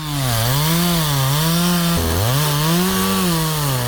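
A chainsaw, held by a man, roars steadily while cutting old wooden railway sleepers, its engine pitch wavering up and down as the blade bites, with a brief dip and surge in revs midway. No voices.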